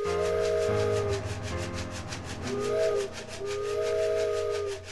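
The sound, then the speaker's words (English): A toy train whistle blows in long, wavering hoots while a shaken box of macaroni and cheese rattles in a steady rhythmic chug, together imitating a passing steam train, fairly loud. “And to make that sound, we use, of course, a toy train whistle, but then also in conjunction with a box of macaroni and cheese shaken in just such a certain way that it sounds exactly like a train.”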